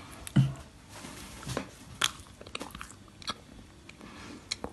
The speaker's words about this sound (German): Sie hat gerade abgebissen. Man hört nicht viel, aber wir können einen kleinen Hint geben, ne?